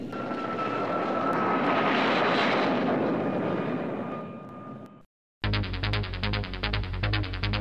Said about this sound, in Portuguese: Avião cai na ponte Ercílio Luz e mata 85 passageiros.